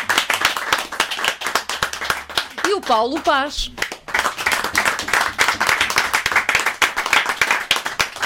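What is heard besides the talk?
audience applause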